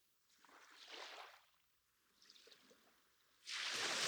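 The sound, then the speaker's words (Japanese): Soft hissing washes of wave spray fizzing as it soaks into a sandy beach, swelling and fading twice before a louder, sustained rush of foamy spray sets in at the end, with no voices. “耳をそば立てると、波しぶきが砂浜に染み込んでく音も聞こえてくる。”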